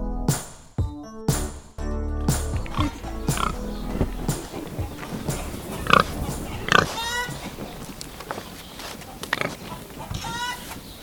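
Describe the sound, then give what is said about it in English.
A pig named Kevin Bacon, from the Sydney suburb of Alexandria, grunts and snorts repeatedly in irregular bursts, some short and low, others rougher and more drawn-out, with snuffling noises between them and faint clucking-like sounds in the background. “He's about as famous as a pig can get in Sydney.”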